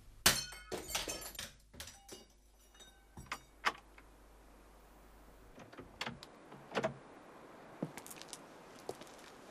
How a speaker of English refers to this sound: The bust was smashed against the garden wall. Nothing else was taken or damaged in any way.